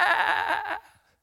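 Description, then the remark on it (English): A person imitates a sheep with a single wavering, nasal bleat that lasts under a second and trails off quickly. The voice is fairly loud, with no other talk. “I'm a needy sheep out here.”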